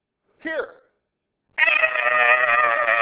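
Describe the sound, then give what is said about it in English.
A human voice imitates a hog squealing: a short, rising squeak, a brief pause, then a long, loud, strained squeal that holds steady for over a second. “So he backs up from that fence and he starts squealing.”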